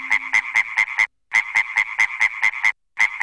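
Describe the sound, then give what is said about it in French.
A frog alarm clock croaks loudly in quick, even bursts, about five croaks, a short pause, then a longer run of seven, then two more, with no voices. “Le matin, il est si fatigué qu'il n'entend pas la grenouille réveil.”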